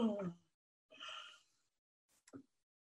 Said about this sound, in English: yawning is really good. You can yawn for about 10 minutes at a time and it's going to make your eyes stream and your nose stream. It's going to really clean you out, but it's really a lovely, lovely thing to do. So it's just very simple. Just yawn.